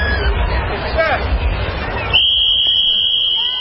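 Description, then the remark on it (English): A crowd murmurs and chatters at the annual Easter Egg Roll at the White House, then a single long, shrill whistle blast, blown by President Biden to start the event, cuts in and holds steady to the end, with the crowd noise continuing underneath. “President Biden blowing the whistle to kick off the annual Easter egg roll at the White House.”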